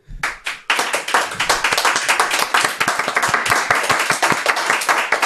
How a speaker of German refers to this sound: Viel oder wenig Applaus für den Wein von Dietmar.